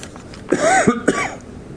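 A raspy cough breaks out in a couple of quick bursts, harsh and throaty, then fades into quiet room tone.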